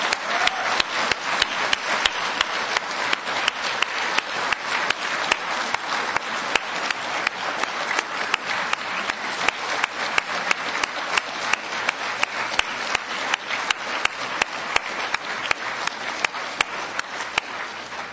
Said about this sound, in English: So let's give him a round of applause tonight and thank him.